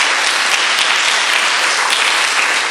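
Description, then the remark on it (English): Loud, sustained applause from a large crowd at Queens College, a dense rush of many hands clapping steadily with no voices audible over it. “You can applaud that.”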